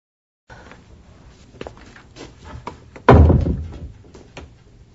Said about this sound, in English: In this scene, Tony and Diana are at the museum. It's late at night. I want you to stop outside the door and then walk into the office.